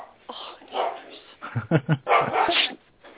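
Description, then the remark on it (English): A dog just back from the vet barks several times in a quick, uneven series of short yips and barks, moderately loud, with a longer whining bark near the end and no one talking. “Maybe I upset the dog.”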